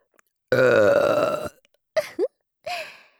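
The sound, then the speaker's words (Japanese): A woman's long, loud, drawn-out burp rumbles for about a second, followed by a couple of short voiced sounds. “これ、このゲップを待ってたんですよね。”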